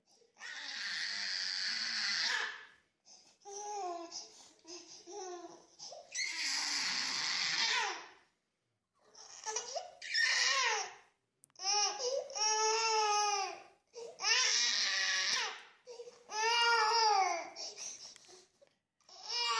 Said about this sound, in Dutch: Maar eerst om even een indruk te geven van hoe heftig het kan zijn, dat babygehuil. Klein geluidsfragmentje.